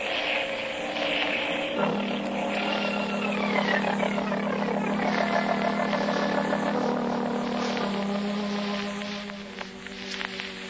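A small seaplane's engine drones loudly as it comes down to land in a cove along the coast, its pitch dipping and wavering as the throttle changes, a steady buzzing roar with no voices.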